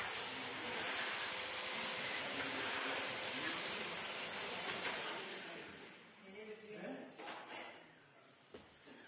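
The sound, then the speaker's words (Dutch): A large white vacuum cleaner roars loudly and steadily for several seconds, then the whooshing noise dies down, leaving quieter rustling and a few faint knocks. “Simon is bang voor die grote witte stofzuiger. En dat helse lawaai.”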